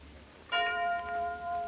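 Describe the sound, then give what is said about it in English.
The time chime of radio station WJSV in Alexandria, Virginia, marking 6 o'clock, sounds once: a bright bell-like tone with several ringing overtones that sustains and slowly wavers over a faint background hiss and hum. “6 o'clock.”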